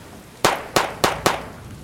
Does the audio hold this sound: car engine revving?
no